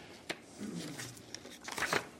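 Quiet paper rustling as sheets cut with a paper cutter and stuck together are separated: a sharp crackle, a stretch of soft crinkling, then a brief, louder rasp as the sheets are pulled apart. No one speaks.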